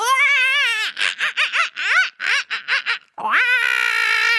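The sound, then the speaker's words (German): Loud, high-pitched screaming by a group all shouting together while drumming fists on their chests: a sustained shriek, then a run of rapid, pulsing yells, a brief break, and another long drawn-out scream to finish. “Dabei schreien wir alle zusammen ganz laut.”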